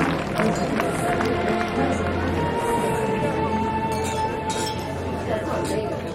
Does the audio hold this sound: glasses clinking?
yes